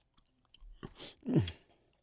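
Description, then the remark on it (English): Wet chewing of a thick, dry mouthful of food, with a few smacking bursts and a heavier squelching crunch near the end, heard alone with no talking. “I don't know if the saliva makes it all blow up and turn almost like cement like.”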